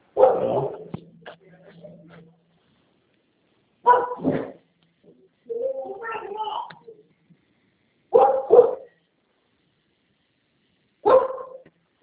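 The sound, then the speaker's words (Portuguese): A dog barks in loud, separate outbursts spaced a few seconds apart, some as quick doubled barks, with a softer whining or yelping sound in one of the gaps. “É que tá cachorro?”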